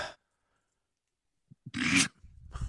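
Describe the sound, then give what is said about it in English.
A loud, rasping breath rushes out after a couple of soft clicks, followed by the start of another harsh exhale, someone breathing heavily and hyperventilating, with no talking. “Breathing heavy, hyperventilating at the thought of The Undertaker having one last match.”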